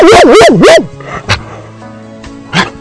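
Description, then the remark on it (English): A dog lets out a rapid burst of three high, yelping barks, then two more single, sharper barks spaced apart with quiet pauses between them. “All right, one more bark.”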